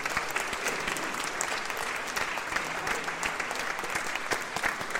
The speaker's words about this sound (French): s'il te plaît, on puisse applaudir.